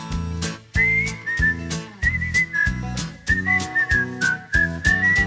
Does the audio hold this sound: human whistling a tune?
yes